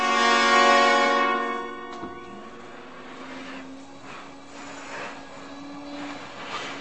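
A vacuum cleaner whines loudly, then a sharp click and its motor settles into a lower, steadier drone that keeps running with no voices.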